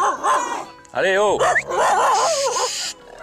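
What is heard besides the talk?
dog barking and yipping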